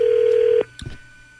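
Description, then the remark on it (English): A phone call being dialed: a steady, mid-pitched electronic tone holds for about half a second and cuts off, followed by a couple of soft, brief clicks. No one speaks. “So let's just should we give him a call.”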